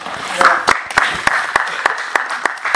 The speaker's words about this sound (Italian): Un meritato applauso